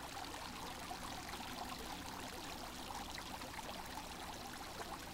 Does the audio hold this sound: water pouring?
yes